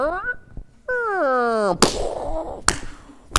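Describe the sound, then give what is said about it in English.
A voice imitates a great-grandmother's old screen door with old springs: a wavering, descending creak like a stretched spring, then a loud slap and two more sharp smacks as it bangs shut. “I remember my great-grandma, she had this old screen door, and that, you know, the old springs on the door when they go.”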